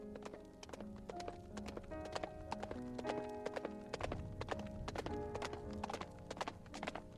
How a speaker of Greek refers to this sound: Το γέρικο άλογο μου προχωρούσε, σκοντάφτοντας σε κάθε βήμα.